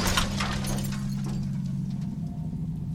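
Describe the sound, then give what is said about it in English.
Glass shatters in a sharp burst of crashing, tinkling fragments during the first second, then fades into a steady low droning hum. No one speaks. “I woke up on the ground covered in tears and broken glass.”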